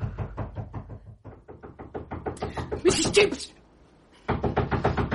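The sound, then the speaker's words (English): Loud, rapid knocking on a bedroom door, dozens of sharp raps in a steady hammering rhythm, briefly broken by a louder burst and short pause before the pounding resumes just as insistently. “Someone knocking on your bedroom door.”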